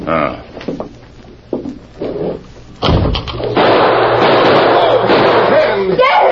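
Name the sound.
gunshot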